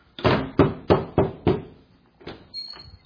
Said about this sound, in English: Y'all know what it means, don't you? I'm standing at the door knocking. If I'm standing at this door knocking, I'm doing something.